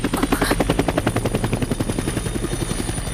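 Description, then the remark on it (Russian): Fireworks going off in a rapid, steady string of deep thuds and crackles, about eight bursts a second, loud and continuous throughout with no voices. “Бомбардировка? Трансляция фейерверков.”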